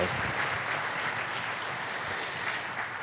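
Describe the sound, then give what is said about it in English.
A crowd claps steadily as a clap offering to the Lord for a visiting family: a dense, even wash of many hands applauding for a few seconds without letting up, with no voices standing out. “So would you just give them a clap offering to the Lord?”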